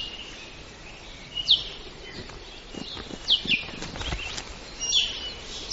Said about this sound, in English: This bird's beak is perfect for sipping nectar from tubular flowers. It's an i'iwi, a long-billed honey creeper only found in Hawaii.